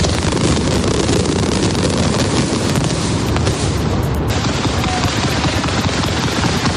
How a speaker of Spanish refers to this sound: El último castillo de fuegos artificiales de estas fiestas a la 1 de la madrugada de la mano de Pirotecnia Mediterráneo. Y este año, como novedad, junto al Palau de Lesas Reina Sofía, 2.000 kilos de pólvora que iluminarán el cielo durante 19 minutos.